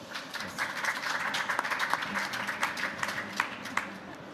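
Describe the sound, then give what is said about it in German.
An audience applauds to welcome guests, a dense wash of many hands clapping at moderate volume with a few sharper claps standing out, sustained for several seconds without any speech. “Herzlich willkommen und ein Applaus für euch.”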